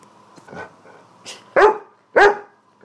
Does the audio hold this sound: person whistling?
no